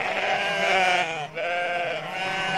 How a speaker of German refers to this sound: Gerate ich voll in so eine Schafherde und ich gucke die so an und denke, boah, was für viele Schafe.